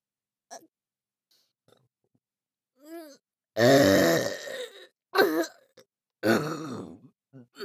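A loud, drawn-out burp forced up close to the listener, followed by a shorter one and then another long, rumbling belch, with quiet breaths in between and no talking.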